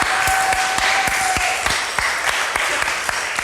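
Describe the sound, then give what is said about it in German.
A crowd applauds the speaker's assistant at an event with a jury, dense clapping filling the whole stretch with a few sharper individual claps standing out and a brief thin whistle-like tone early on. No one speaks. “Einen Applaus für meinen Assistenten, bitte.”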